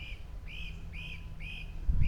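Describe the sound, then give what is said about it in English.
A bird repeats a clear, slightly arched whistled note about five times in a steady rhythm in woodland during mushroom foraging, over a low background rumble that swells briefly at the end. “Hearing all kinds of weird birds.”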